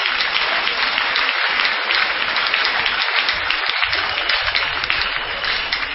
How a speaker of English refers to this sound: Can we clap our hands now?